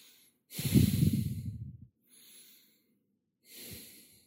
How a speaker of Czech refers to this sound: Pomalu začněte dýchání. Nádech a výdech nosem. Dýcháme nosem.